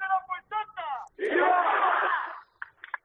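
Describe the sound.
A lone voice calls out in short bursts, then a crowd in Murcia, gathered for the bajada of the patrona, answers with a loud, sustained collective shout lasting over a second, fading into a few scattered voices.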